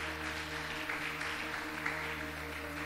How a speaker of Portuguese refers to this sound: Quem crê nisso, então aplauda o Senhor, porque ele é bom, amém?